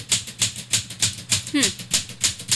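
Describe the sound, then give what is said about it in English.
Typewriter keys strike in a steady, even rhythm as a side note to the governor is typed, about nine sharp clacks in quick succession, with a short hummed vocal sound briefly rising partway through. “Don't you like the sound of a typewriter? I think the sound of a typewriter is very soothing in a lot of ways.”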